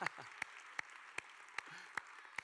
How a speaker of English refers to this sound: And I want to extend a special welcome to all of our kids, because I know it's a little unusual for you guys to be in the service with us, but I'm so glad that you're here as well. All right, we'll clap for the kids.